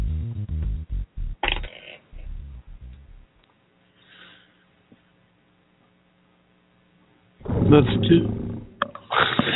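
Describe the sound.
A loud, rough lion roar bursts in near the end after a stretch of low electrical hum, with a man talking at the start.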